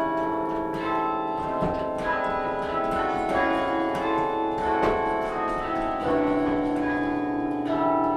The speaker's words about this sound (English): She's dwarfed by the massive instrument, which reaches to the ceiling. To ring the bells, she has to pound her fists and flail her feet on the carillon's three layers of broomstick handle pedals. That's a workout.